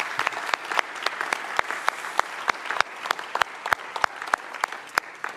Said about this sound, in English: We should give you a round of applause. We didn't do that.